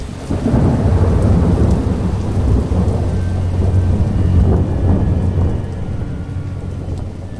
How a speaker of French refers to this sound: Tiens. C'est étonnant, c'est quoi ça, ce son ? L'orage ? Non ?